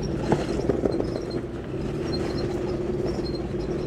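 A truck engine labors under heavy load while driving off-road, a steady low rumble with a droning mid-pitched tone that holds throughout, joined by a few brief knocks and rattles early on. No voices.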